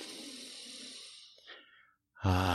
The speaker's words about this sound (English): So here's what you need to do. Take a deep breath, first off.